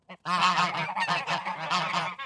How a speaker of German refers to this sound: Es gab gefährliche Gänse.